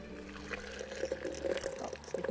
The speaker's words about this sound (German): steht vor einem Gartenhäuschen und gießt Wasser aus einem Plastikkanister in den Kochkessel.